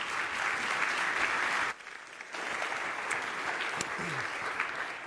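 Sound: audience applause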